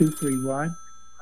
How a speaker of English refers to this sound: Okay, we're getting the ringing again.